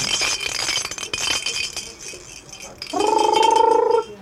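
Baby noisemakers are shaken for a two-month-old baby in quick bursts of bright, clattery rattling, then a steady squeaky, whistling tone sounds for about a second before cutting off.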